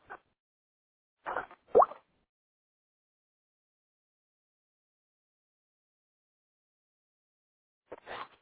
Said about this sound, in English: I'm going to take a sip of water, and I'll be right back.